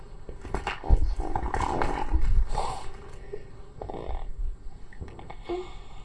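A puppy growls and snarls in a series of rough, throaty bursts, loudest in the first few seconds, then tapering into quieter grumbles with short pauses between them.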